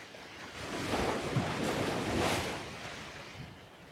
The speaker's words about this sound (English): What would it sound like? It would sound like the waves.